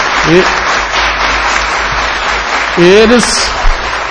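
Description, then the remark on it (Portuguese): Steady, dense applause from an audience, a round of applause for the internos (residents), fills the whole stretch at an even loudness, with a couple of brief raised voices calling out over the clapping. “Eu queria dar uma salva de palmas aos internos, para que Deus ilumine eles, que se salva pelo menos um.”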